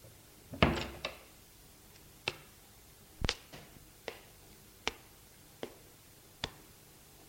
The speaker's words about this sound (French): Elle ouvre la porte de la salle à manger.